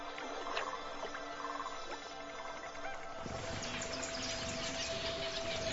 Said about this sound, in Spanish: Entre las muchas aves que se ven atraídas hasta aquí, hay cientos de miles de tejedores de pico rojo. Tal vez sea la especie de ave más abundante de la Tierra.